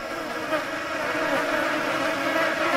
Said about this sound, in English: They're flies, I guess, but I don't like them.